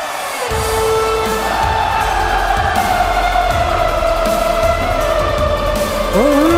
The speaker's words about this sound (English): That is an arena of 17,000 people erupting in unison, singing along to this song.